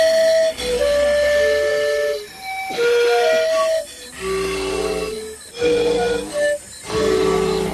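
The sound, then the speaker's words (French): Calls of a white-plumed antbird (Pithys albifrons) in the tropical forest of French Guiana: repeated whistled notes at varied pitches, layered over a loud, hissing background of tropical forest noise, with brief pauses between bursts and no talking. “c'est le cas du fourmilier manicupe, donc Pitis albifrons pour le nom scientifique”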